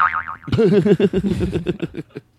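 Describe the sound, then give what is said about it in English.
A cartoonish boing sound effect with wobbling, vibrato-like pitch, starting with a short high warble then a louder springy bounce that repeats in quick pulses and fades out over about two seconds. “You say it again, and then you play the booing sound”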